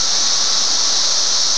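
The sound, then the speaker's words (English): A dense chorus of cicadas in further areas, heard through an open window, forms a steady, unbroken high-pitched hiss with a hollow overtone. It stays at an even loudness throughout, with no voices or other sounds. “that Catter said he thinks is all of the other cicadas in further areas.”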